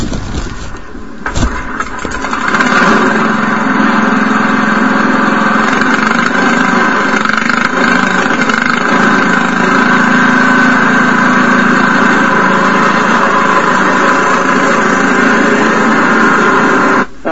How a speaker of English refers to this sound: Exceedingly successful, far more successful than I expected it to be. Like I said, I thought it would putt along a little bit. That would be it. I had no idea it would run that good. But there you have it, running an engine on Everclear.